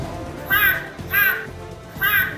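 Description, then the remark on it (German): A short jingle built from three harsh, squawking bird cries spaced roughly evenly apart, each loud, over a faint low background bed. “Warte kurz. Jingle Time.”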